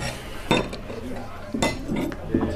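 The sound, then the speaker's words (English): Plates and cutlery clink and clatter on a table in a few sharp bursts as food is served at Christmas, with softer scraping between them and faint voices murmuring in the background. “But I'm perfectly capable of carrying some plates.”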